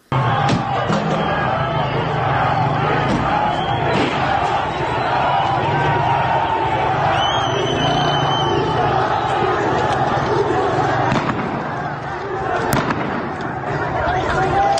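A large street crowd of protesters in Tehran, Iran shouts and chants in a dense, loud roar, broken by repeated sharp bangs of gunfire fired toward the protesters, cracking out at irregular intervals across the scene.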